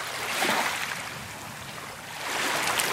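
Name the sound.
waves on a beach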